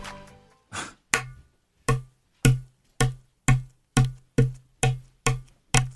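An egg is knocked against a tabletop again and again, about ten sharp, evenly spaced taps, each with a dull low thud beneath a crisp click, ending in a crack.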